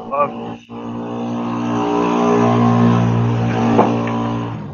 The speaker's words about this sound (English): Sorry, they're spraying for mosquitoes. Oh, okay, yeah, all right. Yeah, I think they're done. Hey, that's the Lord's work, man. Good for them.